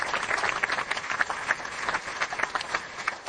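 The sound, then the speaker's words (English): A crowd applauds the event's facilitators steadily, many hands clapping in a dense, continuous patter that holds at an even, moderate loudness with no voices over it. “How about a round of applause for the facilitators?”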